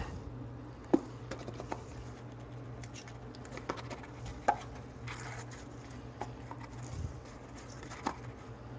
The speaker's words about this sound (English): It says open here. It's hard to get open.